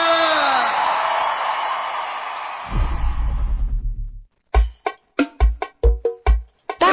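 A loud concert crowd cheers and yells for a few seconds, then the roar drops away under deep bass thumps, followed by an amplified voice talking in short bursts.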